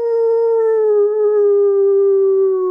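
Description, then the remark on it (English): A person imitates a wolf howl: one long, steady wail that holds its pitch and sags slightly lower toward the end, with no talking. “We howled this and this wolf came out.”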